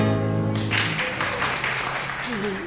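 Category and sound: crowd, scattered applause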